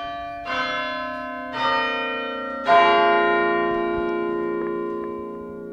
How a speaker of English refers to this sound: Well, I wouldn't sit here all day and listen to the quarter hours to the Westminster Chimes play. But no, I don't get tired.